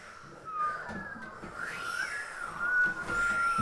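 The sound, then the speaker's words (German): Wind whistles through an open window in a cold, dark cellar, a thin, wavering tone that rises and slides in pitch over a steady breathy rush, gaining strength toward the end. “Wind zog durch ein offenes Fenster.”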